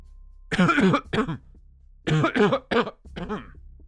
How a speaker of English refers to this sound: My dad started to cough uncontrollably. He stood up and grabbed his throat. Shortly after, my mom kept clearing her throat until she couldn't fight the coughs anymore.